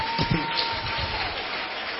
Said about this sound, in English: Can we clap our hands for our